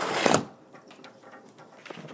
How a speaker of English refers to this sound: That sound, actually, by the way, is a shutter that goes up and down outside. And it basically blocks out the wind noise. And it works very well.